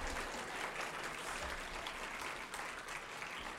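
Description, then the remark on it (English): A crowd applauds steadily after a sung song, dense clapping at an even level for a few seconds without breaks or voices rising above it. “You can't clap for that.”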